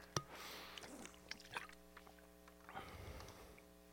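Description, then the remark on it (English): A quiet sip of water taken during a sermon: a few small clicks and wet mouth sounds, then a soft swallow and breathy exhale. No one speaks. “but you might have had trouble hearing me by the partway through my sermon, so I needed to get my water.”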